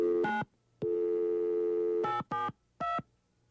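A short electronic phone beep, then a steady dial tone for over a second, followed by three quick touch-tone dialing beeps, clear and close with no voices.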